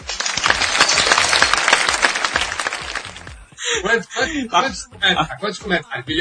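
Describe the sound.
A burst of dense, steady applause lasts about three seconds, many hands clapping at once, then cuts off as a man starts talking.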